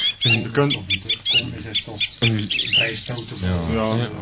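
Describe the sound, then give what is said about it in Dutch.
A bird calls over and over in a steady, regular pattern, short harsh notes following one another closely, loud, with no pause across the few seconds. “Maar ja, het is meer een roep, in feite. Dus een bepaald patroon dat regelmatig terugkomt.”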